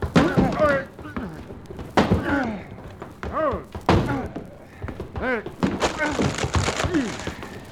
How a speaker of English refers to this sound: Someone's banging on that closet door, Chad. They must have locked somebody in this closet.